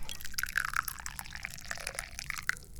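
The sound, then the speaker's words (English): Tea being poured into a cup: a steady liquid stream with bubbly gurgles and bright splashy tones rising briefly, continuous for a few seconds with no talking. “So let's pour some lovely tea here.”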